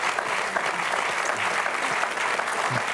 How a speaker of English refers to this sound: We'll just applaud the glory and grace of God that we saw in Peter.